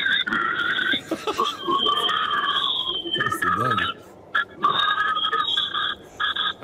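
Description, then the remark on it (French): A person imitates a pig squealing: loud, shrill, sustained squeals in two long bursts, with a brief spoken comment and laughter-like sounds in the pause between them. “Voilà, je vais vous faire le cri de cochon.”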